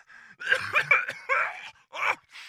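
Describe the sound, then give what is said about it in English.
A strained coughing fit: several harsh, rasping bursts in quick succession with throaty, groaning tones and short gasping pauses between them, fairly loud with no speech. “I seem to have coughed up a bit of my lung.”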